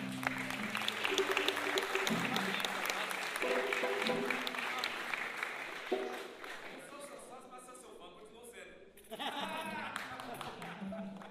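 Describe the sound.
An audience claps and cheers in a dense, steady wash of applause for several seconds. It thins out toward the end while voices and scattered shouts carry over it.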